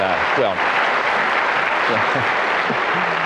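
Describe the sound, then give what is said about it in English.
An audience applauds the mention of a 40th wedding anniversary with dense, steady clapping that holds at an even loudness throughout, while a few voices cheer and call out over it. “Don't applaud.”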